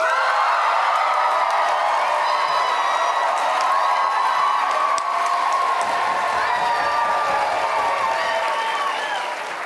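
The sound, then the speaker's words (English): An audience votes by applause for the dog side or the cat side of a debate: sustained applause mixed with cheering and whoops, loud and dense throughout nearly ten seconds, a steady wash of clapping with voices rising over it. “First, we will hear, in purely applause terms, we will hear from the dog side and then the cat side.”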